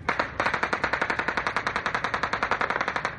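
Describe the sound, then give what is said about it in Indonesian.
Sustained automatic heavy-weapons gunfire at military bases in a West African country on a Sunday morning: rapid evenly spaced bursts firing continuously for a few seconds after a brief opening volley, loud, with no voices. “Tembakan senjata berat terdengar di beberapa pangkalan militer minggu pagi, memicu kekhawatiran berlangsungnya upaya kudeta di negara Afrika Barat yang rentan akan perebutan kekuasaan oleh militer itu.”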